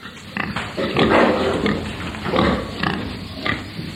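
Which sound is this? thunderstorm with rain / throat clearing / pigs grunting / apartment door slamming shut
pigs grunting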